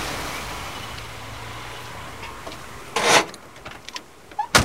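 A car rolls to a halt in front of Pauline's house: a steady low engine rumble and road hiss settle, followed by a short burst of brake or tyre noise and a few small mechanical clicks, with no one talking.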